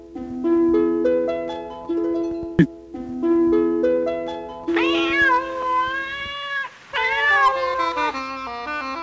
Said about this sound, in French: Quand vous lui faites peur à ce chat, hein?